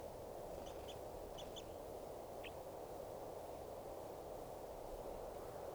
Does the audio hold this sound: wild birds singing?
yes